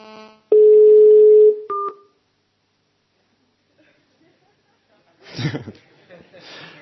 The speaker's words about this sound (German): Ich versuche sie mal anzurufen und bin geblendet und finde das Handy nicht. Hier liegt's.